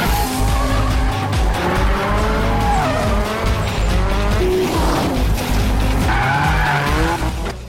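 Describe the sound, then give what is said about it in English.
Several cars, including a 350 and a 350Z, drift around pillars in a dark car park with loud, continuous tire squealing, the screeches wavering and sliding in pitch over roaring engines, with no pauses and no voices. “Now in a dark car park, the 350 and 350Z are in hot pursuit, their tails drifting as they round pillars.”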